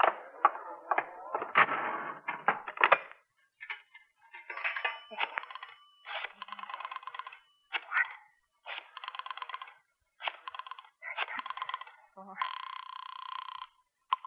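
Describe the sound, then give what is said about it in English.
A nickel clatters into a payphone, then bursts of rapid mechanical clicks from the dial follow in quick runs as a call is placed to the Daily Times classified desk, ending with a steady ringing tone. “Have you got a nickel? I want to make a call.”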